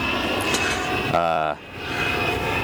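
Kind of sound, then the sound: sound effect, airplane landing sound effect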